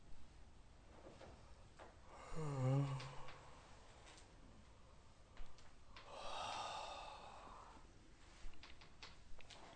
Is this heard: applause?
no